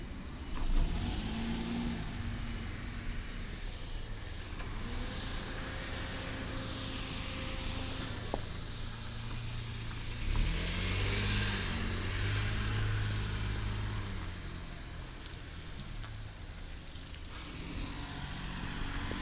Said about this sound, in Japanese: お、車が来た。ちょっと止まってね。